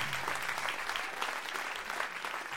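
Steady audience applause, a dense wash of many hands clapping at an even level throughout, with no voices standing out above it.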